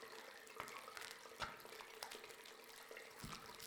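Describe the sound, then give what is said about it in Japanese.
Wet, squishy sounds of a handmade lemongrass herb soap being worked into a lather with water between both hands, a steady sloshing broken by a few sharper squelches, with no one speaking. “とてもいい感じの泡が出来上がりました。”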